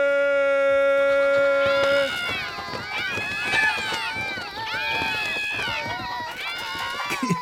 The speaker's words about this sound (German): Das müsstet ihr sehen. Alles, was fliegen kann, flattert mit gewaltigem Getöse hoch in die Luft hinauf. Dieser Alarm ist nicht zu überhören.